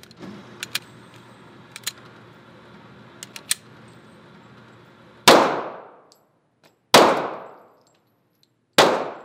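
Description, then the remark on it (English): Three loud gunshots crack out at an outdoor gun range outside Denver, each sharp blast trailing off in a long ringing decay, following several seconds of low background hum and a few faint metallic clicks. “We heard plenty of gunfire, not surprisingly, at a gun range outside Denver.”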